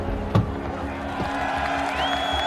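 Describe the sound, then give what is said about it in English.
A protest crowd in freezing weather roars as a young man in a navy suit emerges from a blacked-out SUV behind police barricades, a steady, dense wash of voices, with a sharp thump early on and a high whistle rising and holding near the end. “He's energetic and sprightly, buoyed by the crowd's reaction to his arrival.”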